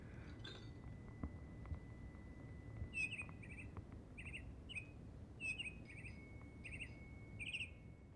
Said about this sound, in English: Yeah, and I got a lovely bit of bird song there. Yeah. So there's 11 sounds that play, and they're all different.